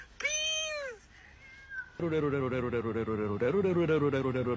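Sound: cat meowing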